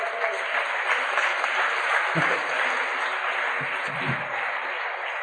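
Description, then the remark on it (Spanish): Sustained audience applause, a steady dense wash of many hands clapping at an even loudness for several seconds, with a few low thumps mixed in. “Sí, un aplauso para ellos.”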